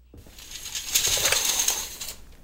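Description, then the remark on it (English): A telephone handset is clicked and rattled several times in quick succession, sharp plastic clicks with no dial tone following. No one speaks. “Check for a dial tone.”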